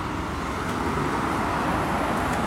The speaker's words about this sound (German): Ah, jetzt ist die Fähre wieder gekommen, wie man hört. Kommen ja doch eine Menge Autos hier angefahren.